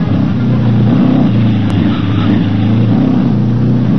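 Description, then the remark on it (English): Loud, continuous roar of racing car engines at high speed, the droning pitch wavering and rising slightly as the cars drive past, with no voices over it; the drivers, vision obscured by smoke from flaming wrecks, keep coming on toward a pileup of crashed cars. “It happened so fast there wasn't time to flag the oncoming vehicles down, and the drivers, their vision obscured by the smoke of flaming wrecks, kept coming on, seemingly powerless to avoid the fate that lay just around the bend.”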